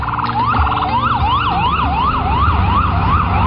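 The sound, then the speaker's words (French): Ambulance and police sirens wail over steady street traffic on a New York street, one sweeping up and down in a rapid repeating rise-and-fall, loud, with a continuous low rumble of vehicles beneath. “Voilà, pour vous mettre un peu dans l'ambiance, ce à quoi on n'échappe pas quand on marche dans les rues de New York, ce sont les sirènes des ambulances et de la police, et le niveau sonore est très élevé.”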